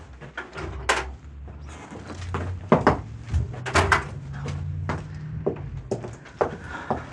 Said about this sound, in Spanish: Se detiene ante la puerta cerrada de una casa de pensión. Tiembla. La puerta que creyera cerrada no lo está. Y solo tiene que presionarla un tanto para que ceda.